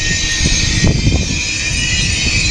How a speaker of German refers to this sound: Ah, der ICE ist gerade angekommen. Gut, die hat sehr gute Bremsen.